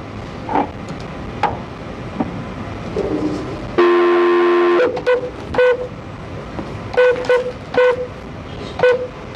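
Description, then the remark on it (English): Telephone dialing tones as a conference call is dialed in during a hearing: a sustained electronic tone followed by a quick series of short beeps as numbers are keyed in, with light background noise and no talking. “I'm going to try to conference in a call again, and if we can't, we're just going to have to move forward with the hearing.”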